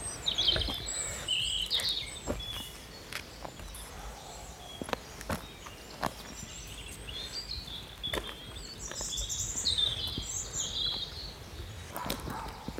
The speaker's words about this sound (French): Il y a beaucoup d'oiseaux parce que là on va aller à la petite chapelle.